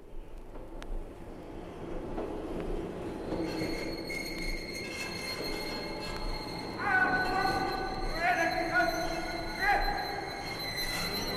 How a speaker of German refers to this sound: Wilhelm II. Empfängt auf dem Potsdamer Bahnhof seine apostolische Majestät den Kaiser von Österreich und Ungarn, Franz Josef I. Als der kaiserliche Hofzug einfährt, reihen sich der Kronprinz und alle kaiserlichen Prinzen in die Front der Ehrengarde